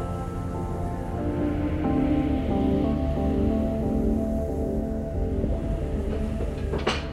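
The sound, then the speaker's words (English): A door slowly swings open with a long, steady groaning creak that shifts pitch as it moves, ending in a short sharp knock or thud near the end. No one speaks. “Oh, I guess I should have knocked.”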